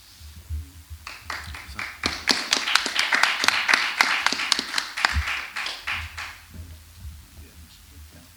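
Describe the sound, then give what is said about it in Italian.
An audience at a lecture event breaks into applause for the next speaker before her talk: a few scattered claps build into a dense, crisp patter of many hands for several seconds, then thin out and fade over a low background hum. “Sì, buonasera a tutti e intanto grazie per l'applauso preventivo che fa sempre piacere.”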